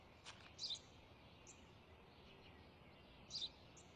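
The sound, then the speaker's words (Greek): A sparrow chirps outdoors, two short bright double-chirps a few seconds apart with a few fainter peeps between, quiet over a steady low background hiss. “Τι είναι αυτό? Ένα σπουργίτι είναι, πατέρα.”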